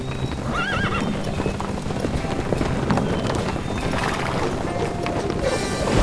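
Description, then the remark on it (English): A herd of 33 horses being herded trots in a steady, busy clatter of hooves, with a clear whinny rising early on; fairly loud, with no talking. “The horses herded, the three men gathered up. I counted up 33 horses.”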